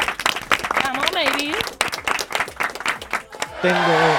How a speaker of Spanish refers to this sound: Y sobre todo, muchísimas gracias y un fuerte aplauso